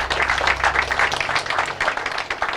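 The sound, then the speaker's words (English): An audience applauds steadily for documentary photographer Tristan Spinski at a question-and-answer event at the Deer Park Tavern in Newark, a dense patter of many hands clapping at once, sustained at an even, fairly loud level with no voices over it. “So let's give Tristan a big round of applause.”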